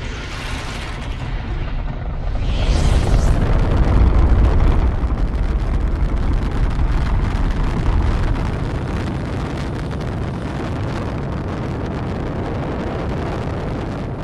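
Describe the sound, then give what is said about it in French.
A rocket launch: after a brief quieter stretch, a deep, loud roar ignites and swells, then holds as a steady, crackling rumble with hissing noise until the end, with no voices. “Bon, vous avez dû vous tromper de serveur, mais bon, si le lama le veut, accrochez-vous à la roquette et c'est parti !”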